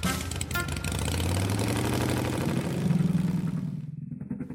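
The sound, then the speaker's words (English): A small scooter engine revs up as the rider takes off down a scooter path, its buzzing pitch climbing as it pulls away, then the whine thins out toward the end as it drives off. No one speaks. “Then she took off down the scooter path that led to her Grammy's house.”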